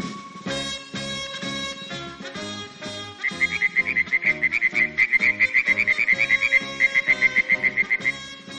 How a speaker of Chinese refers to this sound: 一天早晨，金色的阳光把阿瓦山上的雾气驱散了，一只小青蛙欢乐地唱着歌， 呱呱呱呱呱呱呱。